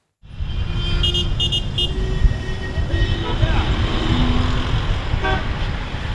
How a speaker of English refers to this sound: Cairo traffic. This city is home to 20 million residents, and sitting in traffic could be considered a national pastime.